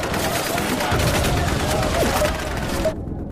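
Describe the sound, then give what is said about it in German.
Dense battlefield din of rifle gunfire and booming cannon fire of the First World War, loud and continuous with overlapping shots and blasts, cutting off abruptly near the end. “Sie schützen sich mit Nigwas Erfindung vor Kanonendonner und Gewehrknallen.”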